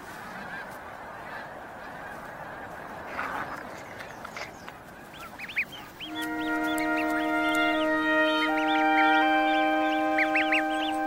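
Geese honk in short, scattered calls over a rough, breezy background, and high thin gosling peeps join in as parent geese lead their goslings down to the water. A steady sustained chord-like drone then rises beneath the calls for the final half.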